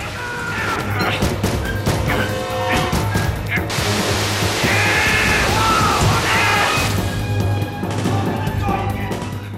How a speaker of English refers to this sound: The wall bursts in on them, and as water gushes through, Walker grabs the secret file and races out the metal door, then slams it and seals it shut to trap the other two in.